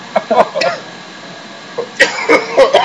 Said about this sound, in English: Here, it's cool. I can turn off your mic and you can cough. Go for it. Let it out,